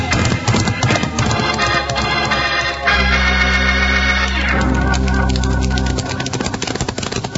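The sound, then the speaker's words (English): Galloping horse hooves pound in a fast, steady rhythm, loud and continuous, with a low rumbling drone underneath through the middle stretch and no voices; riders setting off on their horses, including one named Buckshot. “And now we do some riding.”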